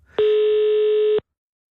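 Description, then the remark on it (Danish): A single steady telephone ringing tone on an outgoing call, one loud, clear beep lasting about a second before cutting off into silence. “Jeg ved så ikke, hvem vi ringer til først, men det vil vise sig.”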